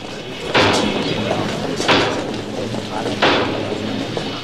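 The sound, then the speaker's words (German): Hammering: three heavy, sharp blows land at an even, unhurried pace, each with a brief ringing tail, over a steady low background rumble. “Hör auf zu hämmern!”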